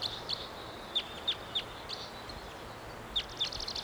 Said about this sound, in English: Wild bird. Not sure which one this is. Let's see it. Up in the high treetops.